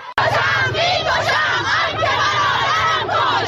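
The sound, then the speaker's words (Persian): A large crowd of protesters in the streets of Zahedan, Iran, on a Friday shouts together in loud, sustained waves of overlapping voices, rising and falling in unison like a chant, with a steady low rumble beneath. They carry 'Woman, Life, Freedom' flags and shout for revenge. “پرچم زن زندگی آزادی در دست دارند و فریاد انتقام سر دادند.”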